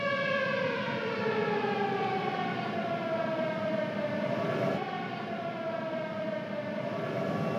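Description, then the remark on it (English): A loud, sustained siren wails steadily, its rich harmonic tone slowly falling and rising in pitch, filling the whole stretch with a constant drone and no voices. “Yes, I can hear the siren.”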